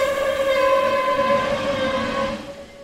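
An approaching steam locomotive's whistle blows one long, steady, loud tone, then fades out near the end, over a low rumbling background with no voices.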